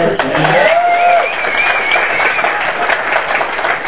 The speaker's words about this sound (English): You can clap, though, for Michael Whalen's art.